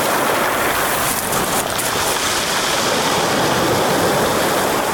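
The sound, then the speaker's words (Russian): Sea surf at Sukhumi, Abkhazia, a few metres away churns restlessly, a dense, steady hiss of water rolling over small pebbles, loud and unbroken from start to finish with no voices. “В нескольких метрах от нас беспокойно шумело море, перекатывая мелкую гальку.”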